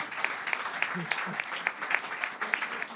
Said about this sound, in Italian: Un applauso a Ivan.